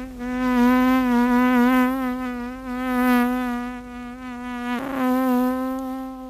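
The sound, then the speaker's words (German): A small drone buzzes and hums steadily, its whining pitch wavering slightly, with a brief dip and recovery near the end. No one speaks. “Es brummt, es summt, es ist ja fast ein ärgerliches Geräusch.”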